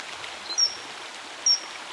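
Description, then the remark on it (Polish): A kingfisher, a sparrow-sized bird with a turquoise back and rusty underside, gives two short, shrill, high-pitched whistles about a second apart, clear, over the steady rushing hiss of a stream. “To zimorodek, ptak wielkości wróbla, ale zdecydowanie barwniejszy.”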